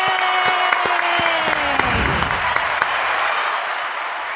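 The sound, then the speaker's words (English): A crowd applauds steadily to welcome a guest on a show, dense clapping filling the whole stretch at an even, fairly loud level, with a descending tonal sweep fading out early on and no clear voices over it. “Soak it up, J.D. It's probably the only applause you get today.”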